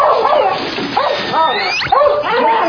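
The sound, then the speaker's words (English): A dog squeaks and screeches in a run of high, wavering whines and yelps, loud, with brief pauses between the squeals. “Fucking screeching! Man, you never heard a dog squeaking for you? Goddamn dog!”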